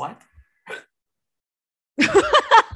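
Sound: hiccup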